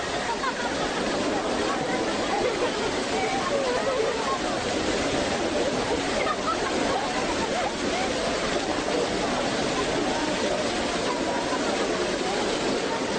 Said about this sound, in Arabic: انظروا جيدا إلى هذا المطر الذي يذهب اليباس والقحط عن فدان.